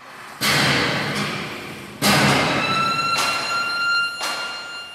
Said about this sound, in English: Hammers pound steel and a hooter blares to end the workday at a factory on the industrial outskirts of Cape Town.